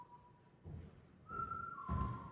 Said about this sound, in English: Why is he whistling?